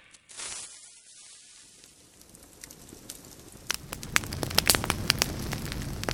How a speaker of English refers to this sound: Alright, started the little campfire.